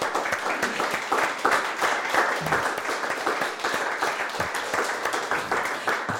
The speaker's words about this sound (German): Aber sie tun es und sie machen es mit ganz viel Engagement in ihrer Freizeit und mit ganz, ganz viel Herzblut. Und deswegen, denke ich, haben die auch mal einen Applaus verdient von euch, die ihr hier sind.